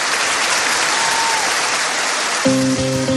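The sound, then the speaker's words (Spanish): Loud, steady audience applause fills the whole stretch, a dense hiss of many clapping hands; in the last second a sustained musical chord rises underneath the clapping. “Una figura importante quiere iluminar con su brillo particular este aplauso.”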